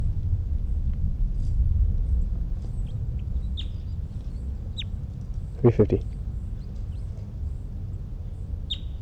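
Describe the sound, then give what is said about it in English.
A bird sings in short, high, thin chirps scattered across a steady low rumble, with a brief burst of three quick, lower, harmonic calls partway through. “It's 327, and I think it's 305 who's in song.”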